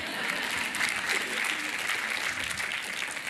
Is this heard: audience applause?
yes